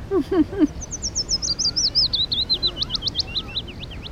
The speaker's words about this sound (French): Oh, regardez, là. Quoi ? L'oiseau, qu'il est mignon. Oh oui.